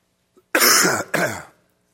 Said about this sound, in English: And I'll apologize once for the coughing, and then we'll just put up with it from here on out.